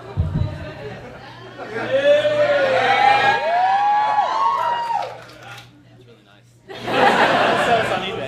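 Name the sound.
audience cheering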